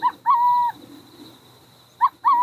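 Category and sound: bird, burrowing owl calls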